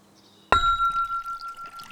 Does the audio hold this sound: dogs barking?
no